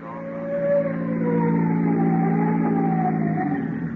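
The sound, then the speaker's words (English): A police car siren wails loudly, its steady tone slowly sliding in pitch across a few seconds, with no voices over it. “Police cars will be ready for noise emergencies.”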